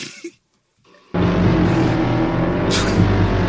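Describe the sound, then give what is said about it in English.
After a brief quiet moment, a motorbike engine suddenly roars into life and keeps running at a loud, steady, throaty rumble with no speech. “Motorbike.”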